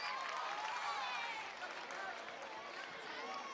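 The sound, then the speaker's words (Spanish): A crowd applauds steadily throughout, a dense, sustained wash of clapping with voices cheering and shouting mixed in, staying loud for the whole few seconds. “¡Ahora sí, muy fuerte ese aplauso!”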